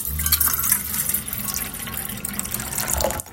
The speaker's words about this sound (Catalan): L'alcaldessa va pensar que seria bona idea posar una aixeta a la font de la plaça Major, per tal que només isqués aigua quan fora necessari.